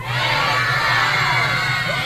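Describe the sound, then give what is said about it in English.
A large crowd of children and adults, on a count of three, yells a greeting together as loud as they can in one loud, sustained burst, voices blending into a dense roar for about two seconds. “I want everyone, kids and adults, to yell, "Hey, Crush," as loud as they can”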